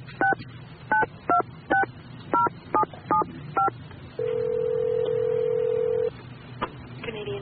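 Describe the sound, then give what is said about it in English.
A telephone number is punched in to call John Kim Bell: nine quick two-toned keypad beeps in an uneven rhythm, followed by a single long, steady, mid-pitched tone lasting about two seconds. “Why don't you just call him up and ask him?”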